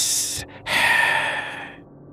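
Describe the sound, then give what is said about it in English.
A short breathy hiss, a brief pause, then a longer, louder hiss that holds steady and trails off. It sounds like a voice making the hiss, with no talking. “Suddenly, she heard the same sound from earlier. Hiss!”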